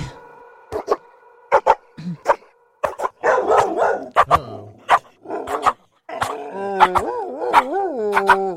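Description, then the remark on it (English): A dog barks repeatedly in sharp, irregular bursts, with a stretch of rougher, rapid yapping in the middle and wavering, whine-like tones toward the end. “It's like a dog bark remix.”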